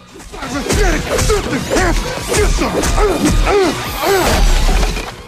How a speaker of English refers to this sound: Jax pummels Cyrax with his fists.